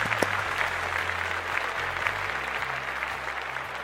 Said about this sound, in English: All right, you have to clap for yourself.